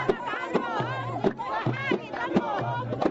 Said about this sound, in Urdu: فیصلے کی خبر سنتے ہی حسنی مبارک کے حمایتی اور چاہنے والے سڑکوں پر نکل آئے اور اس عدالتی فیصلے پر خوشیاں مناتے نظر آئے.